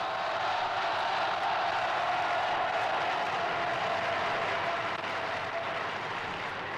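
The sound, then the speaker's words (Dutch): Sustained audience applause, a dense, steady wash of many hands clapping at an even loudness for several seconds, with no voices standing out. “Dit applaus, dat voer ik af naar Mies.”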